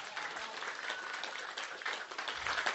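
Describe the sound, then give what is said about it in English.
An audience breaks into steady applause, many hands clapping at once in a dense, continuous patter that holds its level for a few seconds, with no voices standing out. “Can we get a hand clap for that?”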